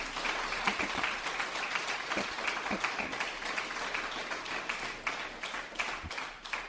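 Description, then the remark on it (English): A crowd applauds a man steadily for several seconds, dense overlapping claps at a fairly loud, even level with no talking over it. “I want to give, can everyone just give him a clap?”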